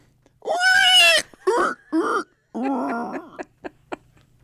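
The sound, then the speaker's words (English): A person from Nebraska does a loud, shrill pig-squeal imitation: a long rising squeal, a couple of shorter bursts, another drawn-out squeal, then a few quick snorting grunts. “Are you good at squealing like a pig?”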